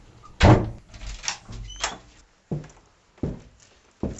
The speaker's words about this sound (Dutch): Een van de geluiden die regelmatig hier klinken in mijn schrijfhok is het tevoorschijn halen van een van de drie delen van de Dikke van Dalen. En die op tafel leggen en een woord opzoeken.